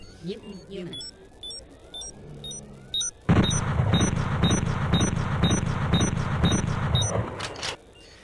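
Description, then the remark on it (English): Short, high-pitched electronic beeps repeat at a steady rhythm from a battery-powered night scope the player is equipped with in an audio game set in a research complex. Partway through, a loud, rough roaring noise with a pulsing beat joins in and then cuts off. “The beeping thing is a night scope, which you are equipped with.”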